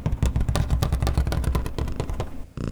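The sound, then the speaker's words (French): A cat asleep in its basket snores with a loud, low, rattling rumble that flutters rapidly and steadily for nearly three seconds, then briefly breaks off before resuming. No one speaks over it. “Écoute, il ronfle.”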